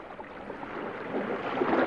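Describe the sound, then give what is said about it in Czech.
A ship moves through a calm sea, with a steady, gentle swish of water against the hull that rises slightly toward the end. There are no voices, only continuous soft wash. “Loď si to plula po klidným moři a všichni námořníci odevzdaně drhli palubu, pořád něco natírali, jak už to tak námořníci dělají.”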